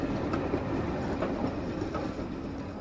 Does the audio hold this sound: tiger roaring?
no